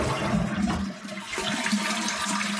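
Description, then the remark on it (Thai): A toilet flushes with a loud, rushing roar of water that swirls and gurgles steadily for a couple of seconds, with no one speaking. “นักวิจัยที่ศึกษาเรื่องละอองฟุ้งกระจายแนะว่าเราควรปิดฝาส้วมก่อนจะกดชักโครกเพราะว่าเรื่องนี้จะช่วยลดการแพร่เชื้อต่างๆได้ไม่ว่าจะเป็นเชื้อโคโรนาไวรัสสายพันธุ์ใหม่หรือเชื้ออย่างอื่นก็ตาม”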